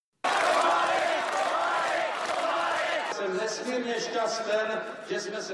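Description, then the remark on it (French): A large crowd in Prague roars loudly and steadily, then settles into a rhythmic chant of a man's name, many voices shouting the same syllables together in repeated bursts, on 27 November 1989 during the Velvet Revolution, as he addresses them while the communist regime collapses. “La foule scande son nom le 27 novembre 1989 à Prague, alors qu'il s'adresse à elle pendant que le régime communiste achève de s'effondrer.”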